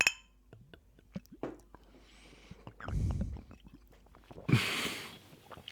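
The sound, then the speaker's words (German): Glasses of lemonade clink together for a toast: scattered light taps and handling noises, a soft muffled rumble midway, then a brighter, louder clink near the end, without talking. “Prost. Prost.”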